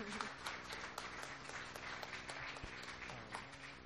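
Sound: applause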